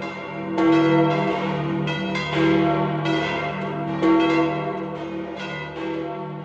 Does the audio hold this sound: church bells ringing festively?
yes